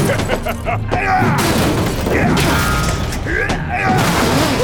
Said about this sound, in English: the hammer crashed into one of the many consoles lining the wall.